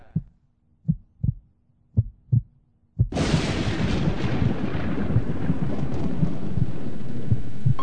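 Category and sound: nature, thunderstorm with rumbling thunder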